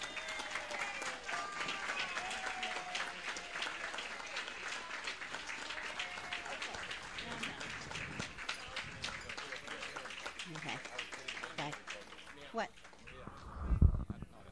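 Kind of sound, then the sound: crowd, audience applause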